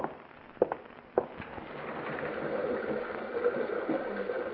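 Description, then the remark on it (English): A couple of sharp knocks, then the steady, hissing roar of a big rocky river rushing through a gorge at night swells in and holds, a dense wash of churning water with no voices. “I've a hankering to hear the big rocky river rushing by down there in the gorge.”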